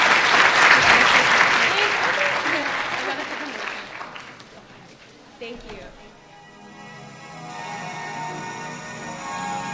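An audience claps loudly in a dense, steady burst that gradually thins and fades out over about five seconds, leaving a low, quiet hum.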